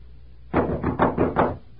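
knocking on a door

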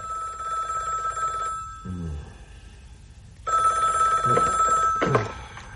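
telephone bell ringing

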